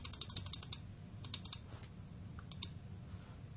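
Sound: pressing computer keyboard keys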